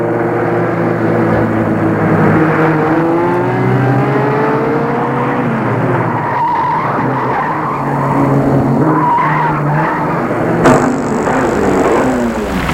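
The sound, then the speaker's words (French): A car drives loudly, its engine roaring as tires squeal and skid in long sliding whines, continuous for the whole stretch before a brief sharp change near the end, as the car comes to a stop in front of an apartment building. “La voiture s'est arrêtée en face de l'appartement de l'immeuble de chez Cliff.”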